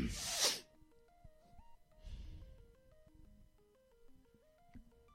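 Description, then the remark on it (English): A single loud, sharp sneeze bursts out right at the start, followed by a softer breathy sound while gentle melodic background music plays on. “You sneezed.”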